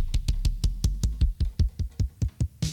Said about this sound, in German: Hier haben wir die Scratcher, ne? Über die ganze Tastatur verteilt natürlich. Bassdrums.